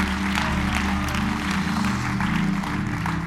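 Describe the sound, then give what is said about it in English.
An audience stands and claps their hands in praise of the Lord, a dense, steady wash of clapping that holds at an even loudness throughout, with sustained low musical tones humming underneath. “Well, can we stand together and let's give the Lord another hand clap of praise just in honor to His great name.”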